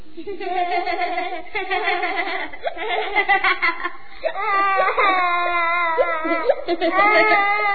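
crying

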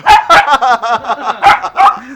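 dog

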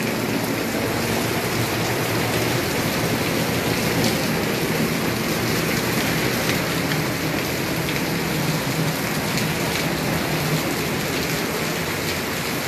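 heavy rain downpour

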